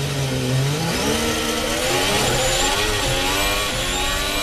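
High-pitched engines of real Formula 1 racing cars, not electric, scream continuously in a sound tribute to Ayrton Senna, their pitch sweeping up and down as cars pass and shift gears, loud with no talking.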